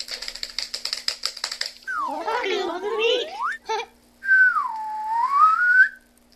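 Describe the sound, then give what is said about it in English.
A child whistles: wavering swoops, then one clear sustained whistle that dips and rises again. A burst of rapid clicking comes before it. “That was pretty good little whistle there.”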